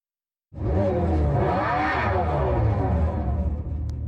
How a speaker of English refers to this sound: Dodge unveiled its first all-electric car model this week. And while the sound of an engine revving is not what you'd expect to hear from an electric car, it is what you'd expect to hear from a muscle car